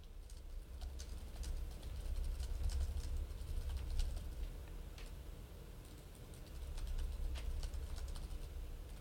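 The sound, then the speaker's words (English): Someone types a query into an AI chatbot to get a number, a quick, uneven run of soft clicking keystrokes over a low background rumble, with no one speaking. “Just typing into here, into ChatGPT, and getting that number for you.”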